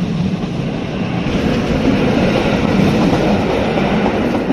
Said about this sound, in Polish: Właśnie minął nas pociąg. Czy Wam w pracy te pociągi tutaj kursujące przeszkadzają? W tej chwili na tym etapie prac dla naszej firmy te pociągi nie przeszkadzają.